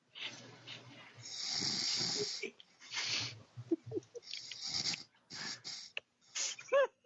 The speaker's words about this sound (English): Wait. Listen. She's snoring. Oh my god, she's asleep. Hold on, if everyone's quiet, we can verify it.